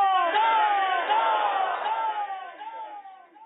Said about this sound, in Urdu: نعرے کا جواب دیں, ….